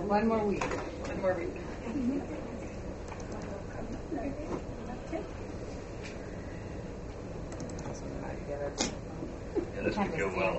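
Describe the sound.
Birds coo softly and repeatedly in the background, a steady low murmur mixed with occasional light knocks and clatter, with voices talking.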